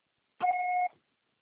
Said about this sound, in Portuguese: Deixe seu recado. Por favor, após o sinal, deixe seu recado.